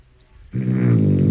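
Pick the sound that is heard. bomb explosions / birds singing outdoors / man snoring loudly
man snoring loudly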